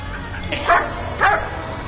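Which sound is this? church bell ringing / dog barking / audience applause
dog barking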